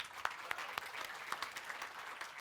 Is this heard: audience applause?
yes